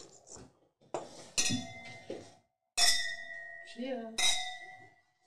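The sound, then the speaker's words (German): Two wine glasses clink together as two people toast, two bright chimes that ring out and slowly fade, following some light clattering of glassware being handled. “Wollen wir anstoßen?”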